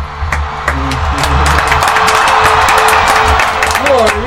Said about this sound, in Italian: Senti, c'è anche l'applauso.